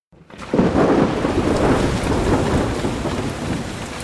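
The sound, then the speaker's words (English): A heavy thunderstorm: a deep rumble of thunder rolls in after a brief quiet start and lingers over a steady wash of loud rain, with no voices. “Man, what a storm.”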